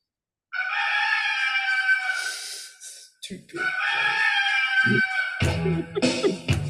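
bird, rooster crowing

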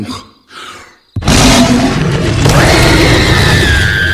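sound effect, monster roar

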